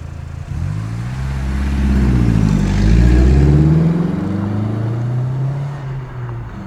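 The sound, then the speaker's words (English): A banged-up Fiat starts up and revs loudly, its pitch rising and shifting as it pulls away and disappears around a corner, then its drone eases off slightly at the end. No voices. “The girls watched the car disappear around the corner before closing the gate.”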